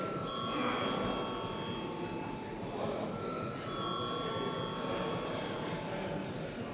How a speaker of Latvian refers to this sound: Ja kāds iebilst pret iekļaušanu darba kārtībā, mums ir jābalso, lūdzu zvanu.